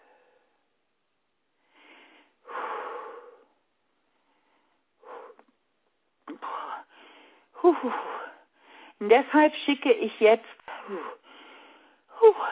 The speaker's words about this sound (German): sie muss ein bisschen schnaufen, das erlauben wir ihr,